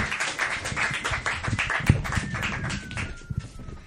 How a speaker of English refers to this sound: Now is the time to clap. Thank you so much for having me. Clap now, please.